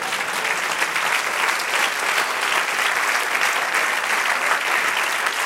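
During a sermon, an audience applauds the Lord. A dense, continuous patter of many hands claps at an even loudness for several seconds, with no voices standing out above it.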